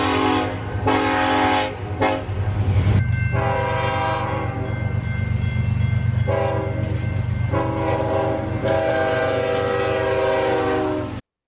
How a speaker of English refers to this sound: Imagine you're on those railroad tracks, folks, and your car's broken down, and that train you just heard is racing right towards you at a very high speed, and you sit there.